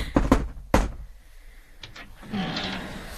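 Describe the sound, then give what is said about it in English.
Sharp knocks on a door, a quick pair of raps followed by a heavier third, then a couple of fainter taps and a soft rustling sweep as things settle. No one speaks. “Was that knocking good enough for you?”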